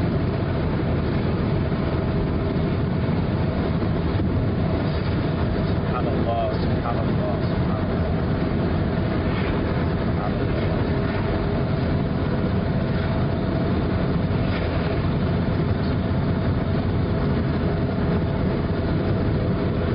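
A steady, droning road rumble from inside a car driving downhill to hundreds of feet below sea level toward the Dead Sea, low and continuous for the whole stretch, with the engine hum and tire noise holding an even level throughout.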